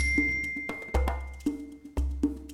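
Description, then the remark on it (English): A bell rings out several times in an uneven rhythm, each bright, clear strike sustaining a lingering tone over a low, deep hum. No one speaks. “Repeat after the bell.”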